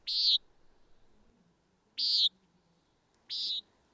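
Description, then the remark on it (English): A common nighthawk gives three short, harsh, buzzy calls, spaced a second or two apart, clear over a quiet nighttime background. “But you also mentioned the common nighthawk.”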